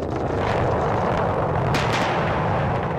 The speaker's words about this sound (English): because it's like a missile falling out of the sky, and then at the last moment you see those engines fire, and then this rocket gracefully lands itself back down to Earth. It's also accompanied by three massive sonic booms that really startle you.